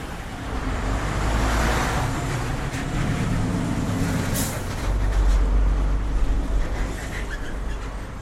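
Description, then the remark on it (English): Steady, dense road traffic rumbles at the Dahlem Science and Research Campus, with cars and heavier vehicles passing continuously and a brief hiss like an air brake partway through. No one speaks. “It really does look so different, and the cars, total madness.”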